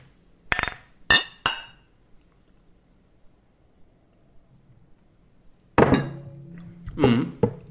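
Three bright glass clinks ring out in quick succession, sharp, then after a quiet pause another cluster of clinks and knocks as glasses of Christmas beer touch again in a toast.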